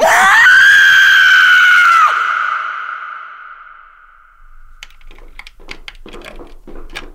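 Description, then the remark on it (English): A woman lets out one loud, piercing, sustained scream that holds for about two seconds and trails away, followed after a pause by a quick run of clicking keyboard taps. “You have to scream.”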